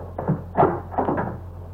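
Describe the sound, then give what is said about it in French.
A door is opened after someone knocked, with a short series of wooden clunks and rattles over under two seconds, a low steady hum beneath and no voices. “Tu vas ouvrir. Tu vas faire comme si c'était mon secrétaire. Allô, oui. Ouvre la porte.”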